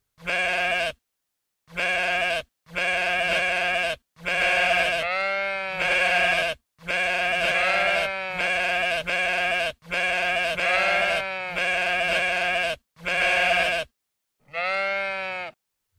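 Sheep bleat loudly, a rapid series of about a dozen wavering baas with short gaps between them, several overlapping voices in a flock and no people talking.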